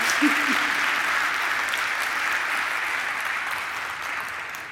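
Steady applause from an audience, a dense continuous patter of many hands clapping at an even loudness, slowly easing off toward the end with a brief voice underneath near the start.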